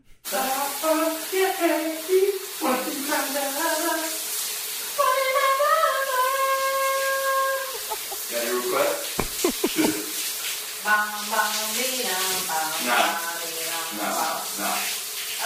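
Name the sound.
shower water running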